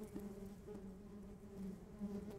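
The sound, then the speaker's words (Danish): A steady honeybee buzz hums continuously, its pitch wavering slightly as the insect moves, as the bee flies home to its colony after gathering flower nectar, with no voices present. “Når bien kommer tilbage til bifamilien, så danser hun.”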